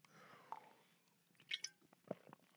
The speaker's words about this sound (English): Hang on a second. I'm going to take a sip of this fine, high-quality H2O.